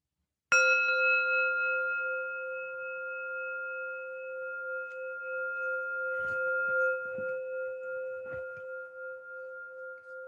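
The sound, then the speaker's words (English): A single meditation bell is struck once, producing a clear, sustained ringing tone with steady overtones that hums on for about ten seconds, with faint soft rustles in the background. “Let me ring the bell and listen to the bell.”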